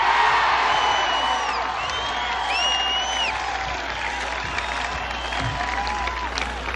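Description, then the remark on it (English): A large crowd at an anti-nuclear power rally cheers and applauds steadily, with a dense wash of clapping under scattered whoops and rising, sliding shouts and whistles throughout. “But the crowd did respond to the better-known names in the movement, like Jane Fonda, husband Tom Hayden, Barry Commoner, and, of course, Ralph Nader.”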